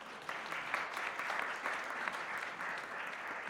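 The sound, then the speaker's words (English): A steady wash of applause from a church audience, many hands clapping in a dense, continuous patter at an even level throughout, with no voices standing out. “Hey, everybody, give John a round of applause.”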